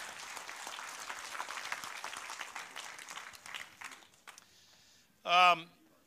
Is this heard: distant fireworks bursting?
no